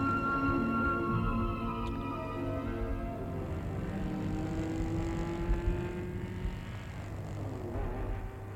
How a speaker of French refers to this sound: À 10h, une voiture s'est arrêtée devant le perron.